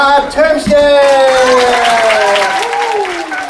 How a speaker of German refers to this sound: Begrüßt mir mit einem kräftigen Applaus.